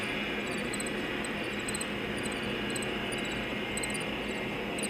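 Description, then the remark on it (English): Rapid, high-pitched cricket chirps repeat in quick bursts over a dense, steady electronic wash that stays loud and continuous throughout, with no voices. “And there's going to be the insect battle. The crickets and a storm.”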